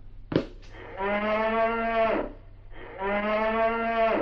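A cow moos twice in long, low, drawn-out calls, each lasting about a second, separated by a short pause. A brief knock or thump comes just before the first moo.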